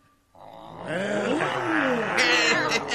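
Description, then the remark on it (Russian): A crowd of voices growls and roars together in imitation of lions and tigers, a loud, sustained mix of gliding, rumbling tones that swells after a brief quiet start and holds for about two and a half seconds. “А рычать, как львы и тигры, можете?”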